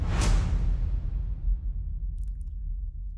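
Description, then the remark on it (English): A single loud transition whoosh sweeps in with a bright, airy burst and then trails off into a deep, rumbling low-end tail, with a couple of faint high ticks near the end. “Transition again. So do it again. Let's talk a little bit. We needed the transition”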